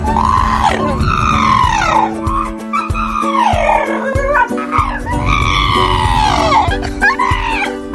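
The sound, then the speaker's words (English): A dog lets out long, high, wavering screams that rise and fall, uncannily like a woman shrieking, repeated several times over a steady hum with no talking. “It just screams. Maybe. Sometimes it sounds like a woman.”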